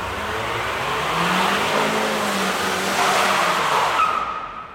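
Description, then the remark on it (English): Tires squeal continuously as a car spins donuts in front of a restaurant in Greenside, with smoke coming from the tires. The loud screech wavers in pitch over a roaring engine and is sustained for several seconds before cutting off. “And then I decided to have a little bit of a donut there, you know what I mean?”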